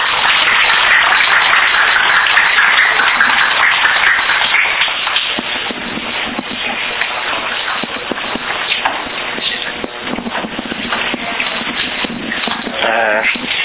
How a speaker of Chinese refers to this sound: 好，我们现在以热烈掌声来欢迎杨医师。